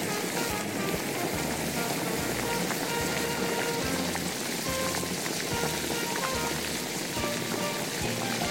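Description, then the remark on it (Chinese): Steady, loud sizzling fills the whole stretch, a dense hiss like frying in hot oil, with soft low thumps recurring about once a second as garlic sprouts are stir-fried with carrots in a wok. “那么在起锅之前呢，把大蒜苗加下去。”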